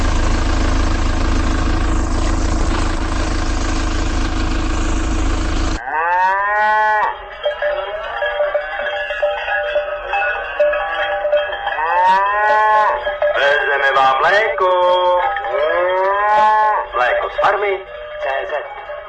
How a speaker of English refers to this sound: The sound of mooing and cowbells resounds in Prague's southern Řepy district on the early morning air.